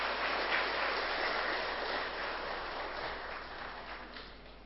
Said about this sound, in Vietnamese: Nếu quý vị thấy đó là một cái nhu cầu cần phải thực tập, và thực tập thì mang lại kết quả cao quý đó, thì hãy dâng cao một tràng vỗ tay để tin tưởng và làm theo.